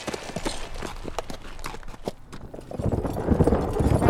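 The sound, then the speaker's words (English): Hooves of four huge black horses pulling a custom-built, luxurious coach out of Denver clip-clop in a steady, brisk rhythm, loud, with the clatter growing heavier and busier toward the end as if several horses are moving together. “The gambler left Denver riding in his own custom-built and luxurious coach pulled by four huge black horses.”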